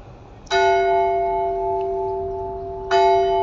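church bells tolling

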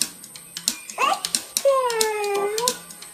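cat meowing or purring

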